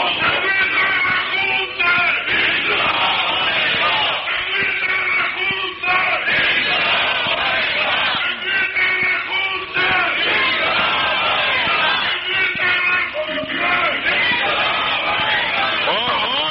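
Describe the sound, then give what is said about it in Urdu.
A large crowd shouts the Takbir slogan in unison, loud and continuous, with repeated surging chant phrases roughly every few seconds and a dense roar of many voices throughout. “بھئی نعرہ مت لگائیں اس طرح، نعرہ تکبیر اس طرح مت لگایا کریں.”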